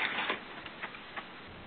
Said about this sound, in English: Well, I think I'm just going to pick up a piece of paper.